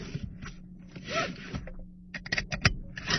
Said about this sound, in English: Oops, let's not forget our seatbelts.